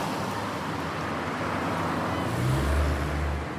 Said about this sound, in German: Das waren jetzt wieder ganz klar mehr die verkehrsbedingten Gerüche, Abgase. Ein LKW kam auch gerade vorbei mit Dieselgeruch.